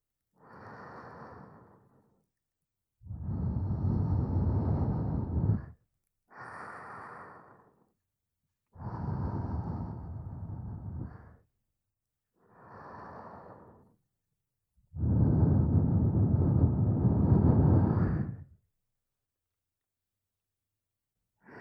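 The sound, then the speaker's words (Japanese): Warm breath blown toward the ear: three long, breathy, whooshing exhales, each preceded by a shorter, softer inhale, with brief silences in between and no talking. “私の吐息、あったかいですか。”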